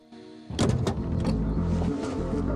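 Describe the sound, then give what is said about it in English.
A man, the character Benson, climbs out of his car: a few clunks and rustling movements over a steady low engine rumble that continues throughout, with no talking. “Now, Benson gets out of his car.”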